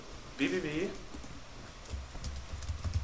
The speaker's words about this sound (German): Ich komme heute nicht ins Tippen rein.